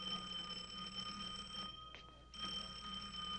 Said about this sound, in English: I know this is going to sound silly, but is it possible that your shoe is ringing? My shoe?